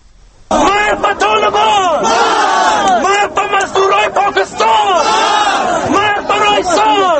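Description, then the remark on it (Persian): Hundreds of protesters in Kabul chant loudly in unison, condemning the killing of former Afghan president Burhanuddin Rabbani; many voices rise and fall in repeated rhythmic phrases, continuous and dense from shortly after the start to the end. “امروز صدها اعتراضگر در کابل قتل رئیس جمهور سابق افغانستان برهان‌الدین ربانی را محکوم کردند.”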